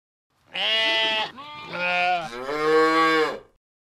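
A cow moos loudly, one long drawn-out call that rises and breaks into three connected stretches over about three seconds, with no talking around it.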